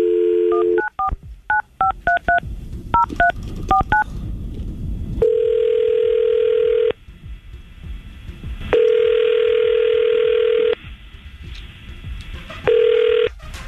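A brief dial tone gives way to a quick run of about ten touch-tone beeps as the 99.5 QYK Tampa Bay morning radio crew dials a number, followed by long, steady ringback tones repeating with pauses between them.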